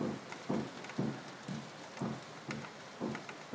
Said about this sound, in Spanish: Dicen que la lluvia en Sevilla es una maravilla. En este caso, la verdad que apetecía, porque así refresca el ambiente.